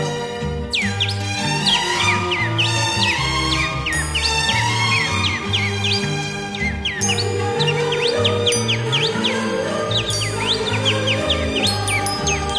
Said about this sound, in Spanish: Cantan y silban las aves de mis costas, Feliciano.